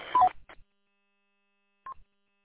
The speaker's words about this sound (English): Okay, so the Roger beep is definitely there. Yeah, definitely take that out.